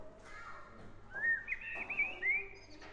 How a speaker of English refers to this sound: Yeah, that's a swift. That's a blackbird.